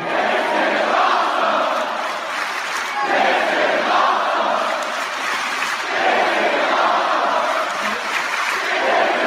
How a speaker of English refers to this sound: You know the type. The this is awesome. This is awesome. Crowd.